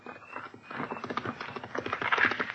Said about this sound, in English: What horseman is that so close? I will see.